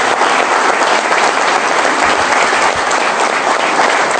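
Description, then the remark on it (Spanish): Steady, loud applause from an audience in remembrance of Leo Isil, a dense wash of many hands clapping at once that holds its intensity for about four seconds without any voices breaking through. “Así que el recordatorio a Leo Isil, y un aplauso para él, que es el importante que tiene para hacer.”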